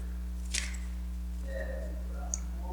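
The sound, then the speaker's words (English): Paper being cut with a couple of short, crisp snips spaced apart, fairly quiet over a steady low electrical hum, with faint rustling in between. “Wow, I think I cut wrong.”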